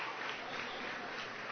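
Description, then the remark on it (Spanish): A crowd at a graduation claps for the graduates steadily in a dense, continuous wash of applause that stays at an even, fairly loud level throughout, with no voices standing out. “Otro aplauso para los graduandos.”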